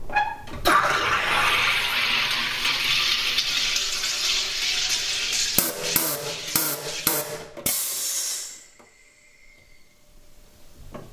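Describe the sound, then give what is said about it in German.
Water runs in a steady rushing hiss for several seconds, broken near the end by a few sharp bursts of hissing before it cuts off to near silence. “Ist ja kein Problem. Wasser.”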